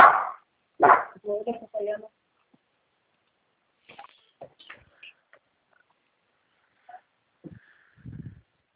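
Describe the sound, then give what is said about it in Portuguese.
A female dog lets out two loud, sharp barks at the start, followed by a person talking and a few faint scattered sounds in otherwise quiet surroundings. “Leva essa cachorra”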